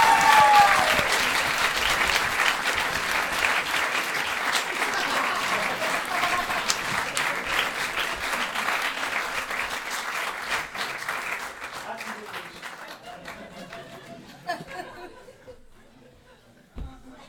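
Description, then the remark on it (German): An audience claps steadily in a dense burst of applause for a question, loud at first and gradually thinning out, with scattered chatter and a few laughs mixed in before it trails off. “Also ich bringe dir das mal einen Applaus für die Frage.”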